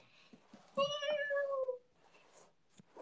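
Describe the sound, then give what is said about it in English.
A single drawn-out cat meow, clear, falling in pitch over about a second, with faint clicks and soft rustling before and after. “Meow. Meow.”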